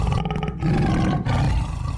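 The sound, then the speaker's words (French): A tiger roars loudly, a deep, rumbling growl that lasts about two seconds, with only a brief catch in the middle and no talking. “Si j'étais un animal, je serais un tigre.”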